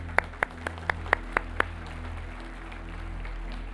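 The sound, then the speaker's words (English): Seven sharp, evenly spaced hand claps ring out over about a second and a half, sounding like a small, sparse bit of applause for those who might have said a prayer, then fade to a steady low room hum. “Can we just applaud those that might have said that prayer?”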